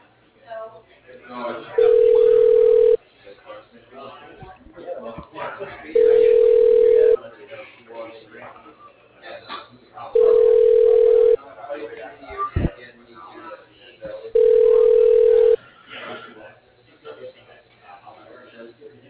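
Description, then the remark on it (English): A telephone ringback tone on a transferred call: four steady, evenly spaced rings, each about a second long and roughly four seconds apart, heard through a narrow phone line with muffled talk underneath. “Your call is being transferred.”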